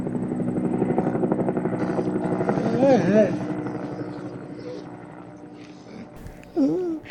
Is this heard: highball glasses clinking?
no